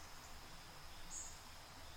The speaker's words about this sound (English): Notice how beautiful the rainforest is, full of greenery. While you breathe in now, listen to the rustling leaves and birdsong.